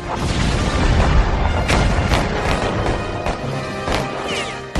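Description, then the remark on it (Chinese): Heavy cannon blasts from Confederate gunboats across a harbor boom out again and again, signalling the start of battle, over a dense, continuous roar of battle noise, loud, with sharp cracking impacts scattered throughout and no voices. “而同时，港口对面的邦联炮舰亦做好准备，他们的炮声就是开战的信号，港口周围的其他炮舰会一起投入战斗。”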